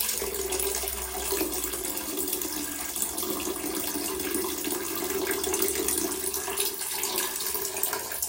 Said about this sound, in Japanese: じゃあどれぐらい入ってたか、水の中にね、おしっこ落としてみるので、その後も聞いてくれたら嬉しいです。結構入ってるよ今回。